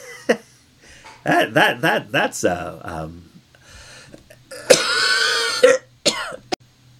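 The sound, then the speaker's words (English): A loud fit of harsh coughing and throat-clearing, with strained vocal sounds between the bursts and one long, rasping hack toward the end before a few short final coughs. “I was went in a bit of a coughing fit, and you didn't need to hear that.”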